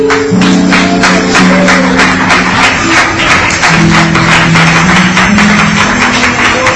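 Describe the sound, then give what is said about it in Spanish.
A church audience claps loudly and steadily in praise of the Lord, a dense continuous patter of many hands lasting throughout, with sustained low musical tones droning underneath. “Tome su asiento y le damos palmas de alabanza al Señor.”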